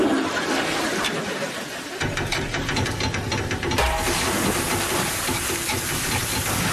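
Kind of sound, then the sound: household object, toilet flushing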